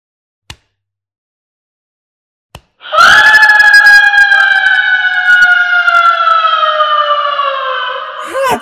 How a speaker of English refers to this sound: She screamed! Her body is crumbling to dust. Before my very eyes. The vampire is no more.